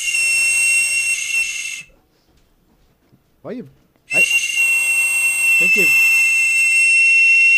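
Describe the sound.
A 3D-printed toy whistle gives two long, shrill, steady blasts, loud and piercing, that are not a 2600 hertz tone. During the short pause between them a man's voice speaks briefly.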